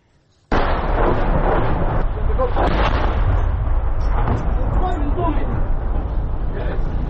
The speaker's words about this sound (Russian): Также журналисты агентства Франс Пресс зафиксировали прямое попадание в дом в Часовом Яру. Судя по звукам, работал град.